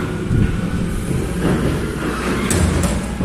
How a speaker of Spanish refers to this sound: El sonido más esperado de La Coruña no es el de los conciertos, sino el del camión de la basura.